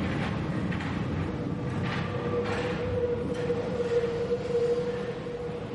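A subway train, nearly empty during the holidays, rumbles along with a steady, dense low roar, a sustained metallic whine running through it and occasional rattling bursts, heard from inside the car with no one speaking.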